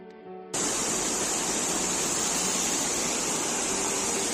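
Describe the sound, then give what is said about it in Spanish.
Floodwater from heavy rain pours down a metro entrance in Madrid, Spain, in a loud, steady, unbroken roar, following a brief tonal sound at the very start. “Así sonaba el agua por una de las bocas del metro en Madrid.”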